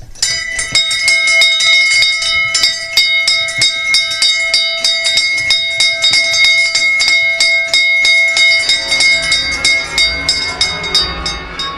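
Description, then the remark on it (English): Bells ring in a fast, steady peal at the county ground in Taunton, loud, their overlapping metallic tones sustained throughout with no talking, and a low rumble creeps in near the end. “thank you to Marcus Truscothick ringing the bells at the county ground in Taunton”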